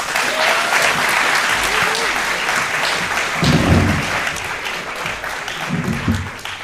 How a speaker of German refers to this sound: gebt mir einen warmen Applaus für Lisa Benzel